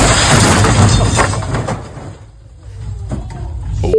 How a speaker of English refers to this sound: That sounded a lot like when the car crashed into the building at 10800 Main Street. That felt like an earthquake.